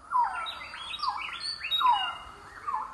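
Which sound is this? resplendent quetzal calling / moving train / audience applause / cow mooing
resplendent quetzal calling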